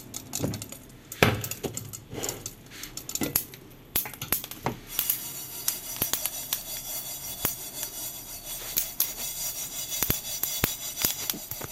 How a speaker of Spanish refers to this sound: Y por eso digo lo del sonido ese, que hay un sonido por ahí que hace clic, clic, clic. Vamos a escuchar el sonido. Y vamos a imaginar semillas de comino. De comino.